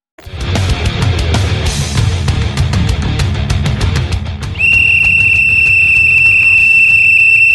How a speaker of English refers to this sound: Here's a dog whistle to all of you out there. Double, two dog whistles. One for the Dems, one for the Repubs.